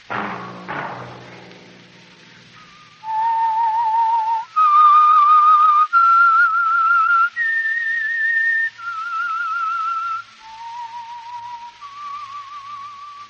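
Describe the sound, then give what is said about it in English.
A clear, loud whistled theme melody of a radio program, sustained, wavering notes rising and falling in a slow, eerie tune, following a couple of brief thumps at the start, with no one talking. “Whistle be your signal for the Signal Oil program, The Whistler, each Wednesday night at the same time.”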